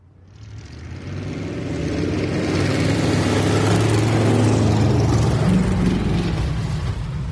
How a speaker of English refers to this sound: To say ice racing on Beluga Lake is a Homer tradition would be an understatement. The winter Sundays spent revving engines, speeding behemoth automotive monstrosities around an oval of ice, and filling the chilled winter air with man-made thunder